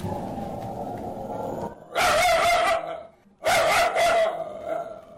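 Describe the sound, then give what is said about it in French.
Médor, a very mean guard dog at the entrance of a family compound in the Central African Republic, barks aggressively in two loud, harsh bursts, each about a second long, after a stretch of quieter background noise. “À l'entrée de la concession, nous sommes accueillis par Médor, un chien très méchant.”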